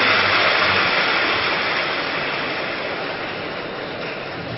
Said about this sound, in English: And they are clapping.